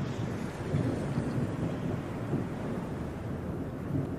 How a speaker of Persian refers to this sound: به نظر میاد طوفان ناجوری در راهه. امیدوارم ما بعد کار کثیفی که الان کردیم شاید بارون حالمو بهتر کنه.